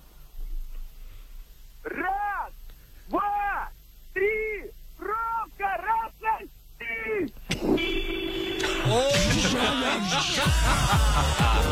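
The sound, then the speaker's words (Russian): About seven wavering, wailing horn-like tones sound in a row with short gaps, then a loud, steady horn belonging to a man from Tyumen blares over a burst of harsh, noisy clatter, scattering everyone around. “Он разогнал всех и вся с собой и своим гудком.”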